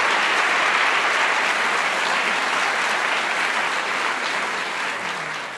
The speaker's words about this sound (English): and yet they did it in a respectful way, and I have to really give them a round of applause for the way they did that.